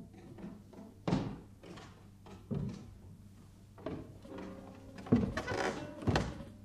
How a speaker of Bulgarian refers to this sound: О, ето! Някой се качва по стълбата.